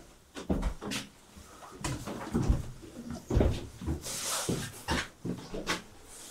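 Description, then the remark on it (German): A heavy bunker door is shut with a series of loud metallic clunks and bangs, followed by rattling latch sounds and a brief hiss, with no one speaking. “So, du musst reingehen, Tür zu machen und dann rechts rum.”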